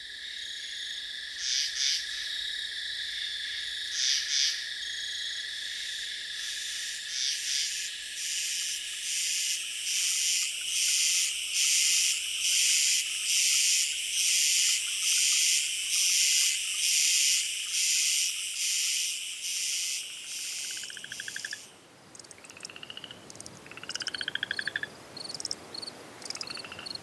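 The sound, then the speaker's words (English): A dense night chorus of frogs and insects, with steady shrill trilling and rapid pulsing calls layered together. Near the end the texture thins and shifts to sparser, chirping calls. “Frogs likely joined the chorus about 200 million years ago, a date inferred from the timing of the split between modern singing frogs and their silent relatives.”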